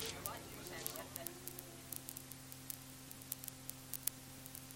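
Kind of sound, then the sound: nature, rain falling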